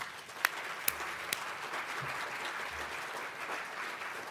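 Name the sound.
audience applause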